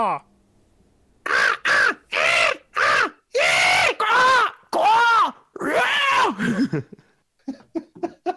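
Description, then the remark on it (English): A person imitates a crow, letting out about seven loud, harsh caws in a quick, excited rhythm, each a burst of raspy voice, followed by a few softer breathy chuckles. “The question is, make indecipherable cawing of an enthusiastic tone.”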